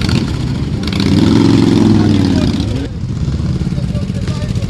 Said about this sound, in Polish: Co roku tutaj przyjeżdżamy z kolegami poświęcić motocykle i wziąć udział w mszy świętej. Widać zresztą, ile tutaj przyjechało motocykli, także a co roku to widać, że coraz więcej przyjeżdża.